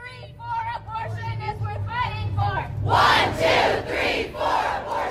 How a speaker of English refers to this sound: And, you know, I'm sure many of us were at the rallies that happened the day after Roe. I was in Austin, Texas, where it was just young people. It was thousands of young people, and they were shouting, vote them out, vote them out.